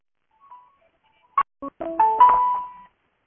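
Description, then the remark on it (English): A phone's electronic ringtone for an incoming call plays a short melodic phrase: a faint chirp, two quick clipped tones, then a brighter run of sustained notes, clear with no voices. “Who's on the phone?”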